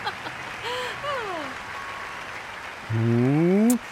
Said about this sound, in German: Ja, und klatschen ist natürlich erlaubt. Ja, danke.